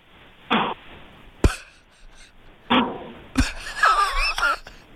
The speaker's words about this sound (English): That sounds like snoring to me. Either that or he's winding some kind of a... Oh, no, that's snoring. Listen.